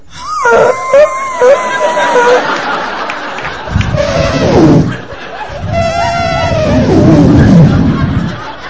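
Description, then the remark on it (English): A voice imitates a man's strange, drawn-out snore, with wavering, sliding moans and groans that rise and fall in pitch over several seconds, while laughter and chatter from listeners break in. “Or it's not even just a snore, it's more just like a...”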